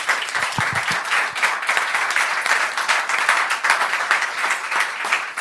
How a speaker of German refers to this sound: Dann machen wir erstmal kurz einen Szeneapplaus natürlich für unsere 6 Kandidatinnen.